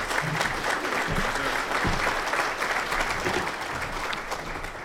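A crowd applauds steadily, a dense, even wash of many hands clapping at once that holds at a fairly loud level for the whole stretch, with no voices standing out.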